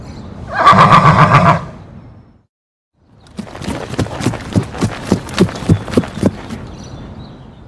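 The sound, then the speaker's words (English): A big white horse gives a loud, quavering whinny lasting about a second; after a brief silence, a quick, steady series of hoofbeats clops along. “This is Henry, Matt's horse. He is big and white.”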